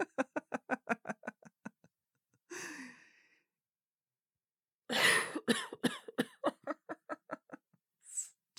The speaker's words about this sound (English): You both laugh, though you try not to joke too much because laughing makes her cough a lot.